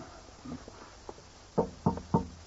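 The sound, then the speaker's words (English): Slow footsteps on worn, noisy wooden stairs, a few soft, faint steps followed by three heavy, evenly spaced thuds, with no voices. “The stairs are rather worn. And noisy, too. They creak fit to wake the dead.”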